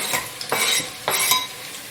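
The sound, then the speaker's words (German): Tomatoes are stirred into meat and onions frying in a hot pan: a utensil makes two broad scraping, swishing strokes over a steady crackle of frying. No one speaks. “Die Tomaten rein.”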